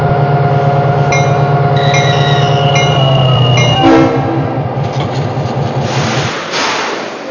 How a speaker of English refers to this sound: On track number 2, train number 50, the Union Pacific West.